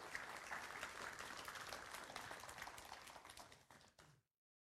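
An audience claps steadily to welcome a person coming up to speak, a dense, crackling burst of applause that holds at an even, fairly loud level for about four seconds, then quickly fades to silence.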